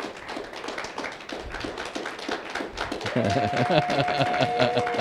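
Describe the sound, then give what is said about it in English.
A crowd of people clapping their hands when told to, during a talk on Psalm 47, verse 1, in a dense, uneven patter with some voices mixed in; about midway a steady sustained tone comes in and holds beneath the clapping. “And so here in Psalm 47, Psalm 47, verse 1, It says, clap your hands, all you people. Go ahead, clap your hands.”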